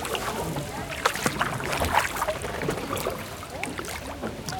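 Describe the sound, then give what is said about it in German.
A wooden punt boat steered by a ferryman glides through water in the Spreewald, Germany, with soft splashes and knocking, steady lapping and sloshing, a few sharper clunks rising from the continuous watery background. “Da kommt noch ein drittes Boot. Ja. Noch ein Kahn.”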